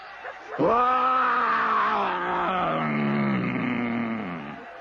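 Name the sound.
lion roar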